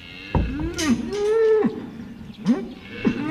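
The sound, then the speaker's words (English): Cattle mooing at a sale yard on a rainy day as the wet cattle come in, a couple of drawn-out, wavering lowing calls with other bellows overlapping and no talking. “Yeah, I've grown up around cattle, so it's a little bit of a flashback, especially on a rainy day like today when they all come in, and the smell of wet cattle is something that really takes me right back to childhood, which is quite nice, yeah.”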